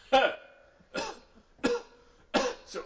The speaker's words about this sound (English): So I coughed a bit more and then he went away.